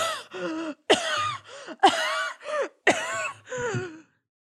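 A woman coughs violently in three harsh, raspy fits, each a sharp hack followed by a second strained burst, with brief gaps between them and no talking.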